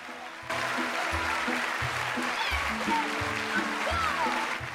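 A small theatre audience, including a girl's sisters and the lodgers, claps steadily and cheers as the curtain rises and she curtsies after her performance, the dense clapping holding at an even level while low, stepping musical tones play underneath.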